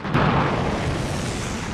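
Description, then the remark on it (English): A heavy cannon blast from a ship in a harbor bursts out with a sharp attack, then rolls into a long, dense rumble of booming fire and echo that stays loud throughout, with no voices. “Cannons fire from a ship in a harbor, then soldiers run over rubble and debris from collapsed buildings.”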